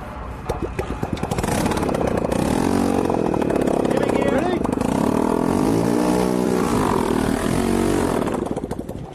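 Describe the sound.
A small engine runs loudly and steadily with a rattling, buzzing drone while voices talk over it, then the noise begins winding down in the final moments.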